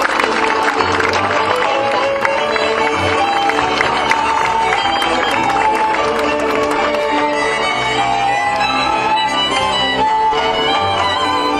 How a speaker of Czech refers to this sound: Ještě jednou zatleskejte stárkům z Březolu, Svárova a Zlámance.